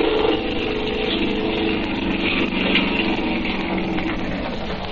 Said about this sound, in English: He's hauling him up into the boat. Now he's starting the motor up. He's turning around the boat, and here he comes.